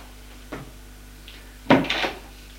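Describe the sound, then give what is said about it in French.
A door on the second floor opens as a woman enters her daughter's bedroom after knocking: a soft click of the handle, a brief pause, then a louder wooden clunk and a short scrape as it swings. No one speaks. “Au deuxième étage, elle frappe à une porte. Entrez. Elle entre.”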